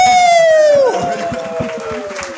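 An audience bursts into steady applause and cheering, dense clapping throughout, with a loud shrill whistle sliding downward in pitch during the first second.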